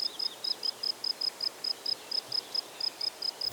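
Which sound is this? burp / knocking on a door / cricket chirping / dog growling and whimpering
cricket chirping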